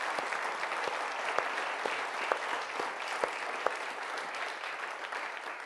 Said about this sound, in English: So let's give everyone a big round of applause for everything that's been done this Christmas.